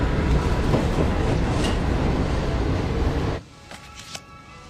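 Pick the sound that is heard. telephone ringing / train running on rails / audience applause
train running on rails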